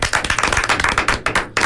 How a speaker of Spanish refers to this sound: Y si les parece, despedimos el programa con uno de nuestros super aplausos. ¡Bravo!